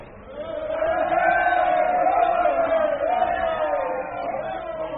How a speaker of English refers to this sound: You must show yourself to the crowd from the balcony, Carlyle. They're going wild.